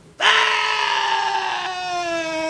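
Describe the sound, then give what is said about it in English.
A single loud, piercing scream dubbed into a recording bursts in abruptly and holds steady at full force for over two seconds, harsh and sustained with no talking around it. “They dubbed a scream on the...”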